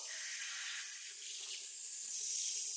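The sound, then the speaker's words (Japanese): A shower sprays steadily, a continuous bright hiss of water pouring without pause as hair is rinsed during a hair wash. No voices are heard over the spray. “それじゃあまたシャワーしますよ。”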